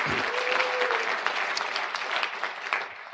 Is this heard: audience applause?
yes